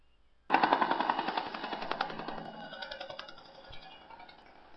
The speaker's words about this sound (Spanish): Si estabas pensando que este es un helicóptero, estás en lo cierto. Es un helicóptero.